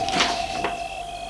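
A château's entrance door opens after the bell is rung, with two short clunks a moment apart, followed by quiet, with a steady faint hum in the background. No one speaks.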